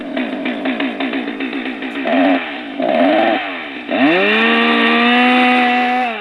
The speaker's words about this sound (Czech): Tak tento zvuk bych tady nečekala. Kácení stromů. A teď už musíme jenom počkat, až strom se skřípěním spadne.